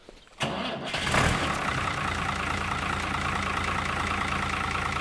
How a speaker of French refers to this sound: Donc là, c'est un tracteur qui a de l'âge maintenant et qui fait que de la mélangeuse. Tracteur du seigneur, comme on dit.